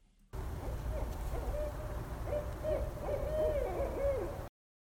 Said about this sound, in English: Pay attention. See if you can hear some owls this week.